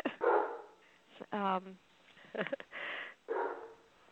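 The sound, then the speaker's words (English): A dog barks several times in short, irregular bursts, moderately loud, with one higher, drawn-out yelp among them and a person's voice faintly mixed in. “No dog.”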